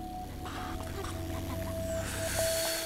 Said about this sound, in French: La sacatou, enfin paisible, se met à ronflotter doucement.